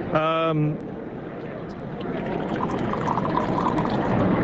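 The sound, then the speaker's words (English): After a brief voiced sound, Australian wine pours steadily into a glass, a continuous splashing gurgle that gradually grows fuller and slightly louder as the glass fills. “Maybe you should pour me a glass or two.”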